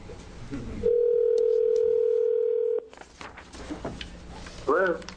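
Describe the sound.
A telephone dial tone from a call to a remote speaker joining a House Healthcare Committee hearing hums loudly and steadily for about two seconds, then cuts off into hearing-room background noise and murmuring voices, with a brief voice near the end.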